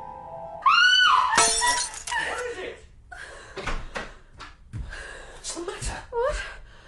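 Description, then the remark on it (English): A dropped glass shatters with a loud, bright crash right after a sharp gasp or scream, followed by scattered tinkling and shuffling while voices talk. “The glass, I dropped it.”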